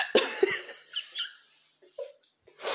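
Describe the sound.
A voice imitates a strained hiccup in the throat: two sharp gulping catches, then a few softer throaty noises and a breathy rush at the end.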